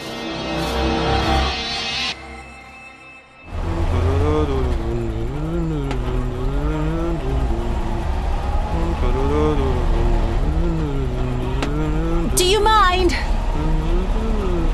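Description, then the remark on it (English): A hired snowcat's engine roars up after a brief lull and keeps rumbling loudly and steadily as the vehicle pulls away, heading into Zone 10, with wavering tonal sounds riding over the low drone. “I tried to get deal on Snowcat, but no use. But you hired one, yes?”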